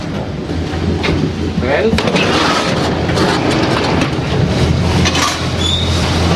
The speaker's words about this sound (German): Wir laufen jetzt hier über Stegeli auf eine erste Holzplattform und dann geht es in einen Aussenlift, der uns rauffährt.